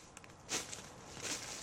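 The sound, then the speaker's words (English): Two soft, crunchy footsteps approaching through woods land about three-quarters of a second apart, faint, like steps on dry brush against a quiet hiss of background noise. “The footsteps came nearer, slowed, then stopped.”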